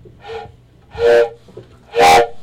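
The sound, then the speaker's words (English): A train whistle sounds three times, the first blast softer and the next two loud and full, each a short breathy wail with pauses between and no voices. “I hear that train. I hear a train.”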